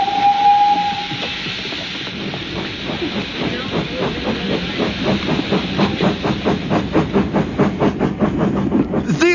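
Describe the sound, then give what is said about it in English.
A steam locomotive bound for München gives a short whistle, then starts off at full speed with loud, hissing chuffs that quicken into a rapid, steady rhythm as it gathers speed. “We must peck the furnace with coal. Engineer, pour on all speed.”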